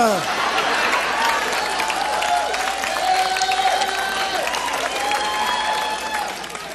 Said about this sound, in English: By the way, I hope you get a round of applause like that at your Thanksgiving dinner when you start to cut into that, oh, the first part, you know.